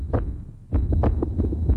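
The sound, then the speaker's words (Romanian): Two heartbeats, of a mother and her child, thump together in overlapping rhythms, muffled, with a low steady throb underneath and brief pulsing bursts. No one speaks. “Așa sună două suflete pereche, două vieți.”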